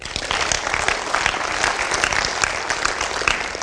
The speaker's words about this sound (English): So he'd say yes. Y'all clap for him.